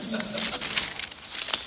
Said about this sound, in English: I'm just going to go back and rustle the paper for the purposes of the tape so it sounds like I'm actually knowing what I'm doing.